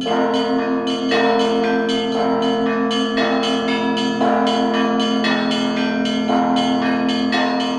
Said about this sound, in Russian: Да, и звон колокольный тоже слышу.